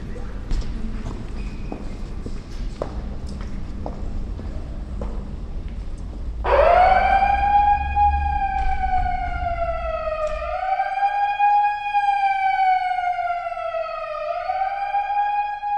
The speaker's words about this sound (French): À 8h moins le quart, enfin 19h45, 19h50, je prends un mégaphone et je mets en marche une alarme. Les gens entendent l'alarme et puis finissent par partir dans les 10 minutes.